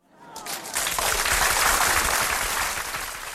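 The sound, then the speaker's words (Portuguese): A crowd breaks into applause for a participant, the clapping swelling quickly into a steady, dense patter of many hands that holds at a fairly loud level before easing slightly at the end. “Palmas para ele!”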